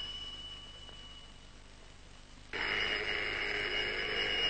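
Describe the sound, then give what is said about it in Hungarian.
A telephone bell starts ringing abruptly halfway through, a loud, continuous metallic trill that follows a quiet stretch with a faint steady high hum. There's no talking. “Csöcsög már ez az átkozott telefon!”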